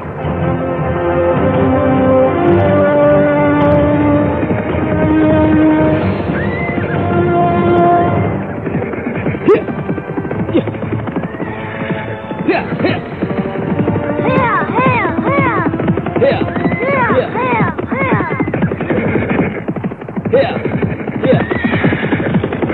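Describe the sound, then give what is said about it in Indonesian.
A horse being ridden neighs and whinnies repeatedly and loudly, with rhythmic clip-clopping hooves underneath, following a stretch of steady sustained tones at the start. “Setelah itu, Lodrang Sengkolo mengajak Joko Tirto naik kuda.”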